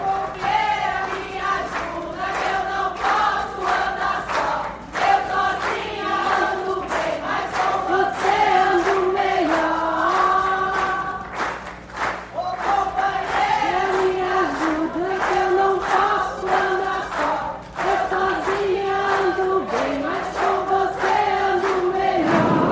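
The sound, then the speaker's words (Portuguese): A chorus of women's voices from the audience in the plenary of the Legislative Assembly of Mato Grosso do Sul chants in unison as deputy Gleice Jane goes up to the rostrum to be sworn in, loud and sustained, with a steady rhythmic melody repeating over about twenty seconds and a low hum underneath. “Da plateia, um coro de vozes femininas entoou a subida da parlamentar à tribuna, de onde proferiu seu juramento.”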